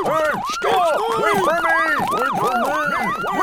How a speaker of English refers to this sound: Look over there, Brad. Brad? An ambulance.